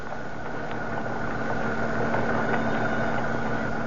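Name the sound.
car engine idling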